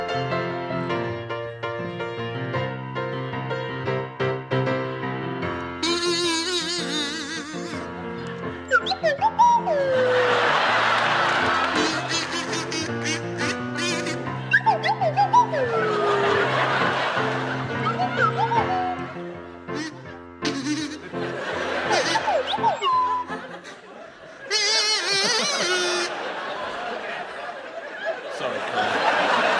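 Pippa Evans plays a bouncy pop melody on a buzzy kazoo while Richard Osman slides up and down on a swanee whistle in swooping glides alongside it, the two playing together loudly and steadily for about thirty seconds.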